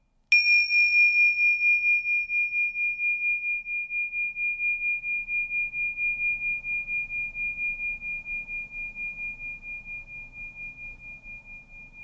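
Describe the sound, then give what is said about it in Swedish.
A single clear strike of bells for a mindfulness listening exercise, the bright, pure tone ringing on with a gentle wavering pulse and slowly fading over about twelve seconds, heard alone without any talking. “Rikta din uppmärksamhet på ljudet ifrån de här klockorna som jag slår an alldeles strax.”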